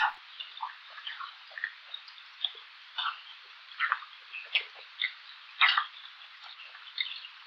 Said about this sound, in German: Und unsere heimischen Heringe? Sie pupsen. Ja, Sie haben richtig gehört. Heringe erzeugen beim Herauspressen von Luft aus der Schwimmblase in den Analtrakt pulsierende Töne.